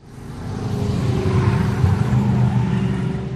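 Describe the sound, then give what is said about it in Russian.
A man starts a car's motor and it revs, its deep, steady drone building quickly and holding loud for a few seconds with no voices. “Он завел мотор, когда автомобиля княгини на Гороховой уже не было.”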